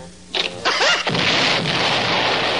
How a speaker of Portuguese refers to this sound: Você tava mesmo certo. Aquilo era uma bala de canhão.